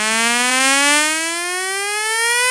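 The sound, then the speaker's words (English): A speaker-cleaning 'water remover' tone, found on TikTok and played on a phone at highest volume to vibrate water out of the phone: a loud, buzzy, harmonic-rich hum that glides slowly upward in pitch, sounding steadily for a few seconds with no talking. “quickly head over to TikTok or any platform at all, then search speaker cleaner, okay, or water remover.”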